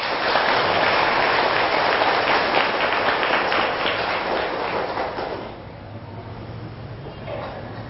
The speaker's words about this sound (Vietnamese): Nếu các quý Phật tử thấy rằng là chẳng những tôi phải làm như thế và khích lệ mọi người cũng phải làm như thế, là việc nên làm, và mỗi khi làm là phải thành công, thì hãy cho một tràng vỗ tay thật lớn.